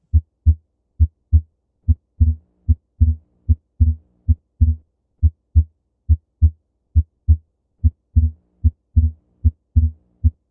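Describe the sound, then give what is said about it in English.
Steady heartbeat with a lub-dub rhythm, about one beat per second, where the second sound is occasionally split into a quick double tap, a physiologic split of the second heart sound, with no talking. “And this is an example of that physiologic split.”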